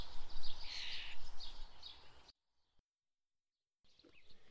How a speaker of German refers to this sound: Und bei der Aufnahme hier sitzen wir ja auch im Garten. Und vielleicht hat der ein oder andere auch das Singen der Vögel gehört.